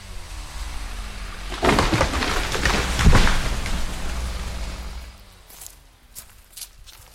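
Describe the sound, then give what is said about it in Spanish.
Footsteps crunch steadily over dry leaves and brush for a few seconds as people walk toward a spring through a heavily logged forest strewn with splinters, branches and fallen trunks, then fade. Faint bird calls follow in a quiet, open setting. “En este momento vamos caminando rumbo al manantial, zona brutalmente azotada por la tala.”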